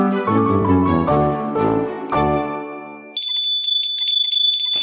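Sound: small bell ringing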